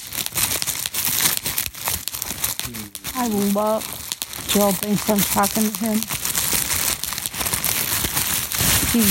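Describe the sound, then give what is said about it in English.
Bubble wrap packing bubbles that came with a gift in the mail being crinkled and popped, a steady run of sharp little crackles and snaps that goes on throughout, with a person talking briefly over it partway through. “And popping these little bubbles that I love so much.”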